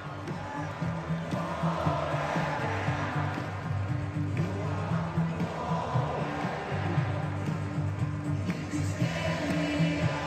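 A huge crowd at a Florida football game in the Swamp in Gainesville sings along together during a timeout: a dense, steady wash of many voices holding sustained pitched notes, loud and unbroken throughout, with no single voice standing out.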